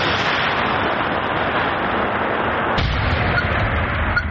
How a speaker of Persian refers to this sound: دوربین در مسافه تقریباً 500 متر از بمبی که باید نابود گردد گذاشته می شود. نواربردار کوشش می کند که دوربین را درست کند تا در وقت ترکش نافتد. بمب های هوایی و دیگر مهمات ناترکیده جنگی را بنابد نابود می کنند.